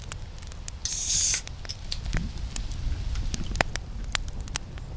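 A short, sharp hiss as a can of carbonated water is cracked open, followed by a steady pour and the light, scattered crackling of fizzing bubbles for several seconds.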